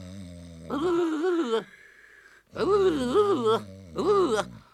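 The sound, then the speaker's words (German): A voice imitates loud, exaggerated snoring in three drawn-out, groaning bursts with wavering pitch, separated by short pauses. “Hör endlich zu schnarchen auf, ich schnarche nie, nie.”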